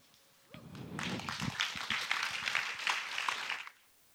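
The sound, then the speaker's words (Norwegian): An audience claps for roughly three seconds on Pentecost day, a dense, steady patter of many hands that starts abruptly, holds at an even level, then cuts off fairly suddenly. “Klappe litt bedre enn det.”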